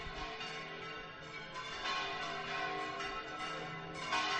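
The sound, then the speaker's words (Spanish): Church bells of the Basilica of Las Angustias in Granada ring continuously on a slightly cloudy day, their overlapping metallic peals forming a dense, sustained wash of tones that swells slightly louder toward the end, with no voices present. “Las campanas de la Virgen de la Basílica de las Angustias en este día 15, que está un poquito nublado.”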